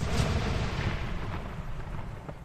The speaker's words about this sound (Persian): چوب دستی با شدت بمب کوچکی منفجر شد.